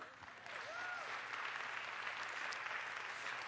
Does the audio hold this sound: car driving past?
no